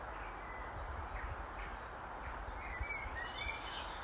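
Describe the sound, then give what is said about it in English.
Faint, scattered birdsong and chirps from birds beside and above a path through a dark avenue of trees in woodland, half-buried beneath a steady low rumble of wind or background noise. “The sound of those birds is even more evident now, because not only are they next to us, they're above us as well.”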